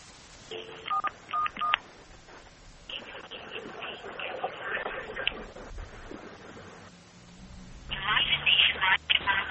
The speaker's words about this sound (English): I can hear a dial tone now.